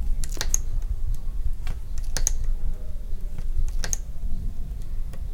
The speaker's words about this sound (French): On entend le tic-tac du crochet.